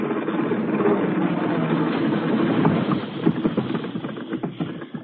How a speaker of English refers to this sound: Here comes the engine now. Here goes the lever.